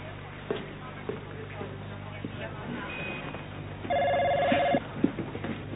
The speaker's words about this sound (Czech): Asi si jistá, že telefon funguje? Třeba má rozbité zvonění. Mně telefon zvoní. No tak proč ho nejdeš zvednout?